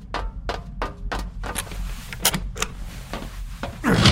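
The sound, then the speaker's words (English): A steady run of about a dozen crisp mechanical clicks as codes are inserted, ending in a louder, grinding clunk as a lever to the right is pulled to secure where a nuke will be, over a low background rumble. “You must insert those codes and pull the lever to your right to secure what you choose where the nuke will be.”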